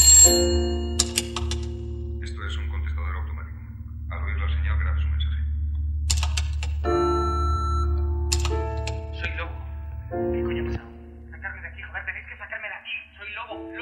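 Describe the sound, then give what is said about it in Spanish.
A telephone rings in several separate bursts after a number is dialed in an empty office, its bright electronic tone cutting in between stretches of a man talking, with a steady low hum running underneath. “¿Dónde está el teléfono? ¡El teléfono! Guión de Antonio Onetti. Marca un número.”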